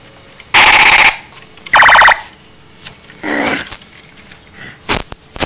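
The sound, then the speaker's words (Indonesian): An alarm clock rings in two loud, shrill bursts of rapid jangling, each about half a second long, followed by a few fainter, shorter rattles and clicks. “Jam apa? Jam. Oh, jam.”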